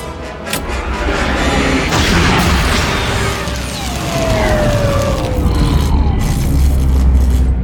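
Loud weapon fire and explosions from attacking raiders pound against a ship, knocking out its guidance system and communications, with sharp blasts near the start giving way to a dense, continuous roar of rumbling impacts and debris.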